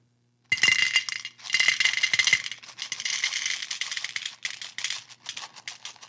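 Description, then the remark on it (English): Tic Tacs pour out of a plastic container in a steady, bright rattle that lasts several seconds, thinning into scattered clicks and taps near the end. No one speaks. “So who wants to guess, or do you want to watch me pour them out first?”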